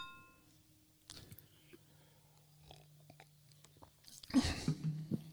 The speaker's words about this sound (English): Yeah, I'm gonna have to sip out of the can for the taste test because I won't be able to get through the foam.